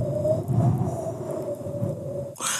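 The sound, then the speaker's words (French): A voice imitates wind as a mouth-made special effect, with a steady, breathy whooshing rumble and a faint hollow whistle on top, held for about two seconds before a brief sharper burst of air. “Le vent.”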